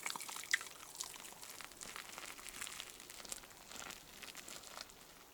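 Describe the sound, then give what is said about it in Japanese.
Soft, continuous fizzing and fine crackling of Nekomeikan Matatabi-no-Yu carbonated shampoo foaming in wet hair as the head is washed while soaking in a bath, with dense tiny pops and hiss spread across high pitches at a steady, gentle level. “では、少し髪にまたたびの湯をなじませてから、少しパチパチ、シュワシュワする音が聞こえますでしょうか。”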